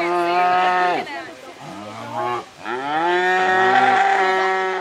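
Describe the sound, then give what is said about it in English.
Several cattle moo loudly, long overlapping calls that rise and fall one after another with hardly a pause, sounding agitated and restless, moments before a cattle obstacle-course competition starts. “The Cow Olympics are moments away from starting, and clearly, the cattle are restless.”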